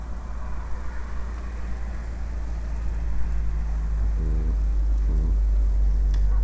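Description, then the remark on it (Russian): A car passes on a highway, its steady low rumble and tire hiss swelling slightly partway through, with faint engine tones rising briefly near the end. No voices. “Так, движение машины сейчас вот по шоссе мы видим, ползет блоха какая-то.”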